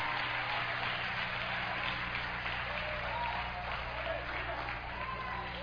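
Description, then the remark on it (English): An audience claps and cheers in praise of God steadily for several seconds, a dense wash of applause with scattered shouted voices rising over a low, continuous hum. “Come on, shout somebody, clap your hand, praise God.”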